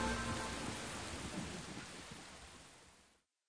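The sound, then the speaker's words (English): A steady, dense hiss of heavy rain pours down, with a low rumbling undertone of thunder, gradually easing before cutting off abruptly. No voices are heard. “By producing such rainstorms, God rules the world and provides us with food.”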